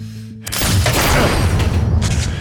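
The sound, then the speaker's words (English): After a brief low hum, a loud burst of gunfire erupts and rolls on as a heavy, rumbling roar, with another sharp blast near the end. “The first bullet hits me in the chest, sends me staggering back a step.”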